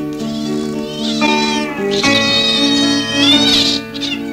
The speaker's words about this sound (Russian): Там кошка и кот на левой штанине украдкой сношались, мурлыча чуть слышно.